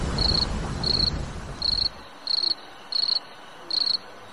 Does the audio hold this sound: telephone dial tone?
no